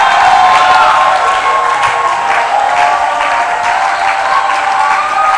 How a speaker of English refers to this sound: Can I ask you this time to shout louder, twice as loud as you shouted, and twice as hard as you clapped.